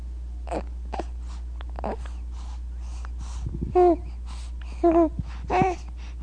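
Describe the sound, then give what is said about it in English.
A baby lies in a tub on a sideboard, waiting for a diaper change. It makes short guttural, straining vocalizations from the back of the throat amid soft breathing, with three louder, strained grunting bursts toward the end, each rising and wavering in pitch. “Guttural sounds.”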